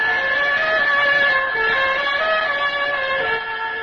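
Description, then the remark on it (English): A burglar alarm, set off during a break-in, blares without pause, its loud electronic tone stepping between a few pitches in a repeating wail, with no voices over it. “Jumbo, you set the alarm off. We'll never get out of here now.”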